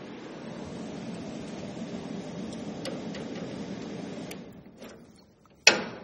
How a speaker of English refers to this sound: Well, I'm going to turn the air conditioning off and hope that we survive, because it's very noisy.